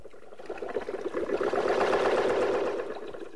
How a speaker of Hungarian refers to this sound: Ordítok egyet, beindíthatod a hajtóművet, és egy kicsit odébb simán leteszed a hajót.